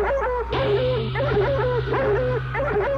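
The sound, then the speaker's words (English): The dog Laika barks in a quick run of short, high, yelping bow-wows, one after another, over a steady low electrical hum; fairly loud, with no talking. “Heartbeat of Laika, the dog, saying, bow wow.”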